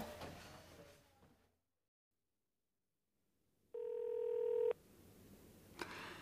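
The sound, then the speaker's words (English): A phone call to Brian's phone ringing out unanswered: one steady, buzzy electronic ring tone lasting about a second, clear, rising out of near silence with faint rustling noises before and after. “Where are you? Answer your phone.”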